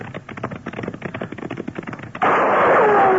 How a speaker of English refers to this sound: Hey, he's shooting at us.